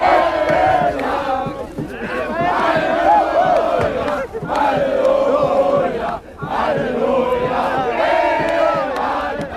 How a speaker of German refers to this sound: Ja, Halleluja, D-Mark um 0 Uhr am Alexanderplatz. Zehntausende begrüßen jubelnd die Deutsche Mark. Mit 6 Silvesterraketen und Hubkonzerten wird gefeiert. Und überall herrscht wirklich ausgelassene Stimmung.